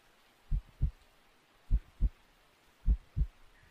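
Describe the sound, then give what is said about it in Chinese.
A muffled human heartbeat, heard with an ear against the chest, thumps in three steady lub-dub pairs, low and soft, with no voices, just a faint hiss in the background between beats. “小猫咪靠在主人胸口，听主人的心跳，喵。”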